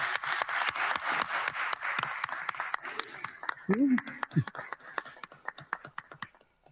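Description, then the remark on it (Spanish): An audience claps steadily, a dense patter of many hands that thins toward the end, with a brief voice rising in the middle and a few last scattered claps, applauding the unanimous approval of the creation of the Centro Universitario de Tlajomulco (CUT Tlajomulco) and welcoming it into the university network. “Esto es por unanimidad, se aprueba la creación del Centro Universitario de Tlajomulco, por lo que les pido un fuerte aplauso y bienvenido el CUT Tlajomulco a la red universitaria.”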